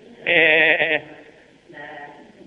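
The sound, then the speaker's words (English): A person's voice imitates a sheep with one loud, wavering bleat, followed by a second, fainter and shorter bleat after a brief pause. “Do your sheep impersonation.”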